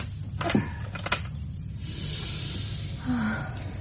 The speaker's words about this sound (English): And if I may open this window. Of course.